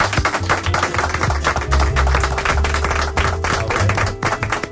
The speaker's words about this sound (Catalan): T'haurem de fer un aplaudiment, perdona.